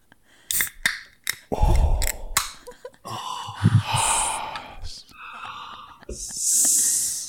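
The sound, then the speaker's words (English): A few sharp metallic clicks and rustles, then a can of beer cracks open with a breathy hiss, ending in a steady fizzing pssht. “I'm going to open a can of beer.”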